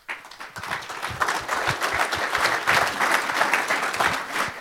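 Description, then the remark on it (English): Sustained audience applause at an event for the C3 VOC team, a dense, steady patter of many hands clapping at once with a fairly even loudness throughout, no voices standing out above it. “Warm applause for them.”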